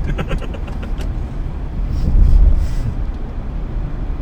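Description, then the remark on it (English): A steady low rumble of road traffic near the Bellagio on a Saturday night, with engine noise swelling briefly as a vehicle passes midway, then settling back into a continuous drone. “Hey, how's this traffic for you? This is what I expected.”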